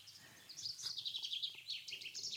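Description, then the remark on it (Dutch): A chaffinch song rings out: a quick run of bright, high chirping notes tumbling together over about two seconds, fairly faint, with no voices present. “En dan horen we de vinkenslag. Dat is de zang van onze vink.”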